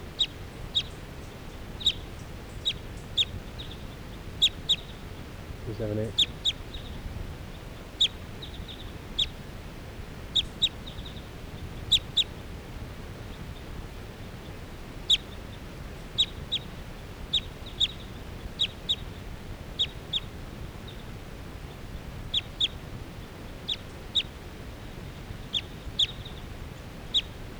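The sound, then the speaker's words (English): A bird, recorded as bird 378, calls repeatedly, giving short, sharp, high-pitched notes in an uneven series over a low, steady background hum. No voices are heard. “This is still 378 calling.”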